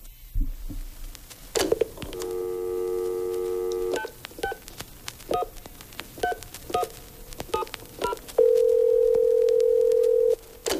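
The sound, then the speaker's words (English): A steady telephone dial tone hums for a couple of seconds, then a quick series of touch-tone dialing beeps, ending in a long sustained tone, with no voices. “there's the phone.”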